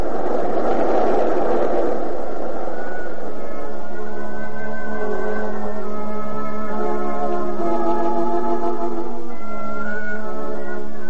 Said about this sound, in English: Avenue L, 30 feet above the street, from which the rushing passengers look into the unshuttered windows of the poor, where the thunder of steel on steel never dies, day or night, and the working man sets his clock by the passing of the train.